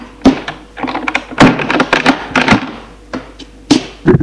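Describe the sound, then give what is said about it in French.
A woman closes a door as a man enters: a series of solid wooden thunks and sharp clicks, like a handle and latch rattling before the door settles shut, with no voices. “Elle ferme la porte.”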